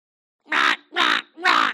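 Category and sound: bird, crow cawing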